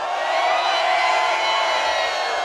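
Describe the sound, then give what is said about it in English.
An audience screams together on a performer's cue, with hands in the air, in one sustained, loud, high-pitched roar that holds steady for a couple of seconds. No individual voices stand out. “Raise your voices. Louder. And scream!”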